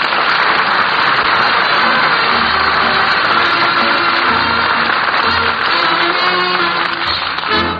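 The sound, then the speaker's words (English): A large audience claps loudly and steadily, a dense, continuous wash of applause filling the whole stretch without pause, full, with no voices rising above it. “Maybe we ought to have applause over where I work.”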